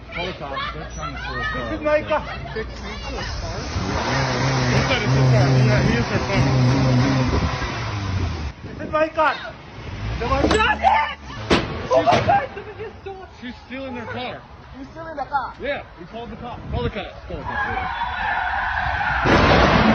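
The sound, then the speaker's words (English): A stolen car's engine revs and tires skid as it speeds off, followed by loud slamming impacts and crunching metal as it smashes an Uber Eats driver into a pole and roadside barrier, with agitated voices and crowd chatter in the background. “My God, did you hear the car crash or the girl's speed off after smashing this poor Uber Eats driver into this pole and barricade?”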